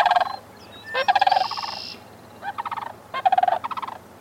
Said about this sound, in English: Most cranes, like these sandhill cranes, duet with prospective partners for years before they begin breeding.